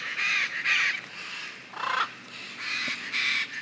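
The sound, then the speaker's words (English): Blue and gold macaws flying in Caracas give a series of loud, raspy squawks, about six harsh calls in quick succession with short gaps, with no one talking. “Those are bright blue and gold macaws flying in Caracas.”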